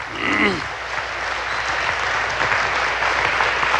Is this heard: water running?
no